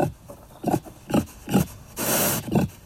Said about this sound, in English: Enter the next suspect in the fox's demise, the feral pig.